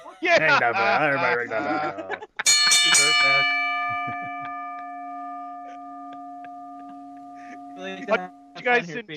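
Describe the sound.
A single loud bell strike rings out after someone speaks, its clear metallic tone sustaining and slowly fading for several seconds before voices return.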